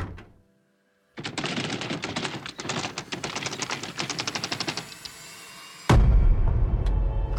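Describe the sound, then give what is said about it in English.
Frantic, rapid knocking on a door: a dense, fast rattle of sharp raps going on for several seconds, followed by a sudden louder, rumbling burst of noise. “What in the hell are you knocking like that for?”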